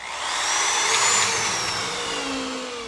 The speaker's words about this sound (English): And he drills screws into new planks in the deck he's replacing behind his house to relieve the stress of a life plan gone awry.